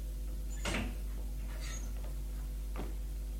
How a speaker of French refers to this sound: Il ouvre la porte